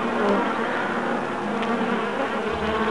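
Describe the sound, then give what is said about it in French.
Bees buzz steadily around a red flower, foraging on it, a dense, continuous droning hum of several insects, with no voices and no breaks across the few seconds. “Quand le printemps arriva, les abeilles intriguées par cette fleur si rouge vinrent toute la butiner.”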